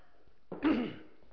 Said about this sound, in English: I'm going to tell a story here, but I just need a drink to clear my throat, because I'll have to shout.